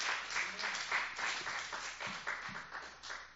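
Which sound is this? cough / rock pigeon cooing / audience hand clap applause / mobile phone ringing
audience hand clap applause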